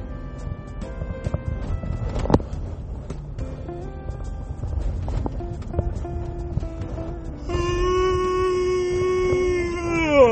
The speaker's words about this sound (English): Sorry for my giraffe yawn.